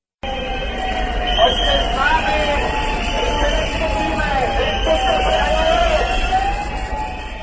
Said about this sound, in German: Pfiffe und Sirenen waren am Donnerstagmorgen unweit des Prager Pavlovplatzes zu hören. Die Protestdemonstration der Gewerkschafter begann nahe der Prager Hauptverkehrsader, der sogenannten Magistrale.